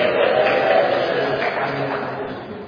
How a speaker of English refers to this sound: Congregational church. So let's hear a cheer for the congregational church tonight.